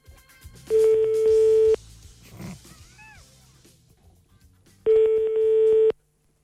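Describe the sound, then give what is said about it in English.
A telephone call to a young couple on their honeymoon rings out on the line unanswered: two steady, buzzing ring tones about a second long, separated by a pause of several seconds with only faint background noise between them. “We're ringing this young couple on their honeymoon.”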